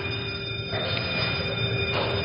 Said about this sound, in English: That's the warning bell. In 30 seconds, the high voltage will be turned on the oscillator. When that steady bell becomes intermittent, the world's most powerful cyclotron will be manufacturing 450 million volts of atomic force.